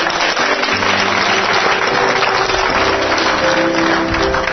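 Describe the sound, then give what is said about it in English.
A crowd of people gives the Lord a hand clap, clapping steadily and loudly for several seconds, a dense wash of many hands with faint sustained tones underneath. “Can you give the Lord a great big hand clap?”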